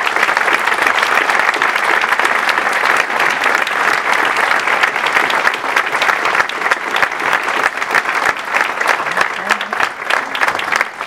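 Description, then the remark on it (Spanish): Sustained audience applause at a tribunal event, honoring a retiring magistrate, a dense, steady wash of many hands clapping at an even loudness for about eleven seconds, with no speech over it. “mi querida amiga, la maestra María de los Ángeles Garrido Bello, que en esta fecha se jubila y para la cual, si me lo permiten todos ustedes, les ruego brindemos un caluroso aplauso.”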